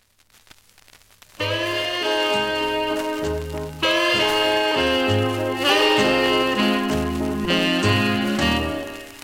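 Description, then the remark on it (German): A vinyl record of a Christmas song played on the radio station Kanal K begins with a second of faint surface crackle and hiss, then loud music starts: rich sustained chords over a stepping bass line, with light crackle persisting underneath. “Und jetzt hört ihr es hier im Kanal K im Soundtalk Christmas Special ab Vinyl.”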